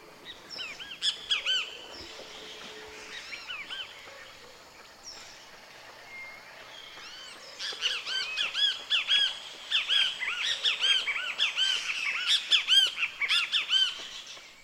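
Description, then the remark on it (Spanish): A great kiskadee sings from the branches of a tree with new copper-coloured spring leaves, its loud, harsh, repeated calls the most prominent voice in a busy chorus of birdsong, growing denser in the second half, with no voices. “Y allí, entre sus ramas, un luis bien tebeo está cantando, la voz más evidente del coro de aves.”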